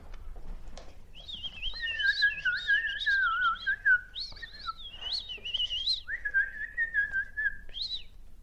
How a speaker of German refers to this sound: Die Vögel im nahen Wald sangen.